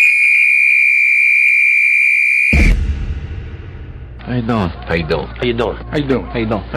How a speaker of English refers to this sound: The clock starts on my whistle.